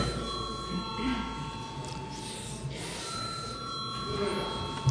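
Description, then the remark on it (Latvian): A parliamentary voting bell rings continuously with a steady, sustained electric tone over a low hum and murmur, rung before a vote on granting urgency to a bill. “Lūdzu, zvanu.”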